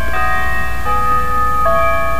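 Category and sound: signal or alarm, church bells ringing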